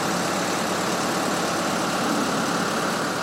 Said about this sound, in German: Eine Boeing 777 steht im Hangar des Flughafens Wien-Schwechat. Sie trägt den Namen Sound of Music. Doch der Sound in der weiten Halle kommt von einem Fahrzeug mit Hebebühne. Auf ihr stehen zwei Männer und kleben Folien auf den Rumpf der Maschine.